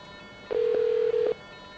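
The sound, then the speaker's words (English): A chip-synthesized telephone signaling tone, a wink supervision signal, sounds alone: one steady, mid-pitched electronic beep lasting under a second, with a quick dip just before it cuts off, then quiet. “So back in the late 80s, I discovered a chip that actually synthesized the tones.”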